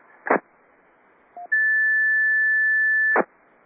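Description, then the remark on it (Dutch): A steady, high-pitched 1750 hertz tone beep on an amateur radio net, the Hunebed ronde, sent when someone presses the wrong button, holds for nearly two seconds, preceded by a short lower blip and framed by bursts of static hiss at each end. No one speaks. “Ik hoor alleen maar een 1750 hertz pieptoontje.”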